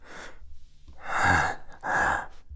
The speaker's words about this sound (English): I love how you're breathing right now. Focused on it.